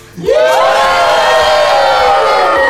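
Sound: audience cheering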